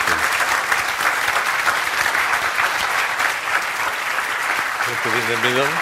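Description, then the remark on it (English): Sustained audience applause for the artist, a dense steady wash of clapping at a loud, even level, with a voice starting to speak under it near the end. “Round of applause, I think, first for the artist.”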